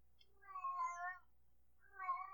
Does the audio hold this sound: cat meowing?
yes